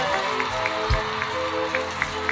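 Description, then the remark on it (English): An audience applauds steadily for a singer, a dense wash of clapping and crowd noise that holds at a fairly even level throughout, with a few low thumps underneath and no voice speaking. “Oh, give her a big round of applause.”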